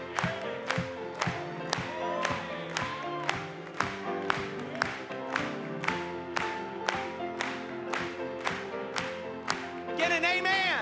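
An audience claps together in a steady, unified rhythm, roughly two claps per second, over sustained singing voices and music that swell toward the end, during an evening hymn glorifying Christ.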